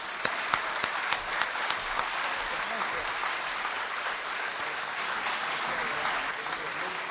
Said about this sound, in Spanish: Así que los recibimos a los dos con un gran aplauso.